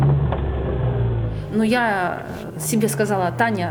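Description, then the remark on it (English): A car engine rumbles steadily, a deep low drone, during a late-night road chase in which a black Porsche tries to force a small car into a ditch; a voice begins talking over it partway through. “She's on her own, it's late at night, and a black Porsche is trying to force her small car into a ditch.”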